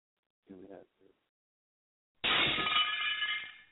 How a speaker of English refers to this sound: There we go. You got the broken glass here.